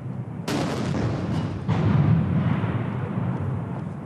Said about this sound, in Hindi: चीन ने बीजिंग के तियानमेन चौराहे पर इस जीत की 70वीं सालगिरह की शुरुआत 70 तोप के गोले दाग कर दी।